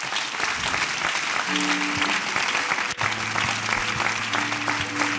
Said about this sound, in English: Clap your hands as they are coming.